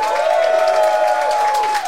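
A live audience in Kuopio cheers and applauds loudly and steadily, a dense wash of clapping with whoops and a sustained high-pitched whistle running through it, no one speaking.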